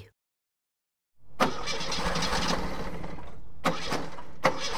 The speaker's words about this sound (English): I don't believe it. The car won't start.